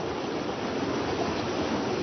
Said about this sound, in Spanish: El sonido del río Caquetá no ha cambiado mucho desde que Janet se fue de aquí hace casi 10 años.